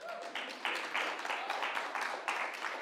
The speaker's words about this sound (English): So clap yourselves.